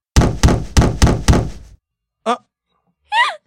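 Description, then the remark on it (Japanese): Five heavy, booming thuds pound in a quick, steady rhythm on the roof of a car being driven, someone on the roof banging, each ringing briefly, followed by two short, startled exclamations from a voice. “しばらく走っているうちに、車を叩く音はなくなっていた。”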